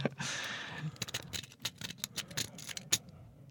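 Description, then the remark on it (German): A Bogota rake lock pick is raked at random back and forth over the lock pins, producing a quick series of metallic scratches and clicks in an irregular rhythm, with one sharper click near the end; no one speaks. “habe tatsächlich mit dem Bogota habe ich da einfach nur drin rumgerüggelt”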